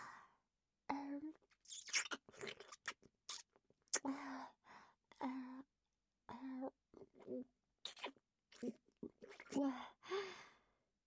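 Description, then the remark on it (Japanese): Wet licking and mouth noises in irregular bursts as someone licks a right nipple, with soft smacks and breathy murmurs between them and quiet gaps. “梅雨だくで舐められるのを感じちゃうの？”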